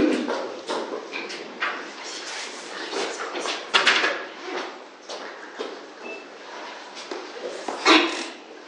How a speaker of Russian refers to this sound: дверь закроем, чтобы не слышно было, как там.